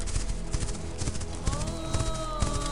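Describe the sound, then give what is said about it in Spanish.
Hooves clip-clop in a steady, uneven rhythm while a horse lets out a drawn-out whinny partway through, the sounds moderately loud over a low background rumble. “Percibe la presencia majestuosa y serena de los caballos, que se mueven con gracia en la distancia.”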